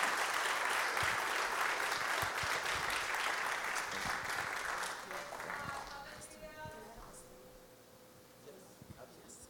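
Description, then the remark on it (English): A church audience applauds to welcome a guest, their director of missions, with dense, steady clapping that gradually thins and fades over about nine seconds, leaving a few scattered claps at the end. “Please help me receive her today with a hand clap.”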